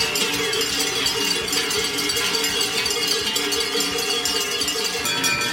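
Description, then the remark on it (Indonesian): Many cowbells, rung by about 1,000 protesting Swiss farmers outside the Federal Office for Agriculture on the outskirts of Bern, clang and jangle together in a continuous, dense metallic clatter, loud and steady throughout with no pauses and no voices. “Bukannya datang dengan traktor, para petani justru membunyikan genta sapi yang menjadi lambang Swiss.”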